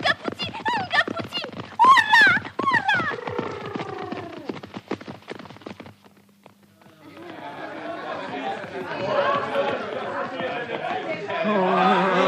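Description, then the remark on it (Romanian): Rapid horse hoofbeats clatter for the first half in a quick, uneven gallop with excited shouting over them, then fade into a busy crowd murmuring and chattering. “Așa zboară ca fulgerul, căluțul.”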